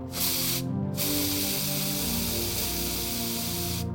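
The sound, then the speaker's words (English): A fresh aerosol can of maximum strength hairspray hisses as it is applied liberally in two long sustained sprays, a brief burst followed by a short pause and then a steady, loud spray that runs for about three seconds. “Finding the first can in its death throes, she discarded it, grabbed a fresh one, and began applying liberally to fortify her new look against the rain.”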